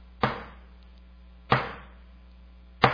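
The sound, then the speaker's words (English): A captain's small hammer strikes three sharp, loud knocks at a slow, steady beat, each a little over a second apart, with a brief ringing decay and a faint low hum underneath, beating the paddling rhythm for galley slaves. “The galley slave would paddle when the captain up here, here's the captain, who had this little hammer, and the captain would go like this.”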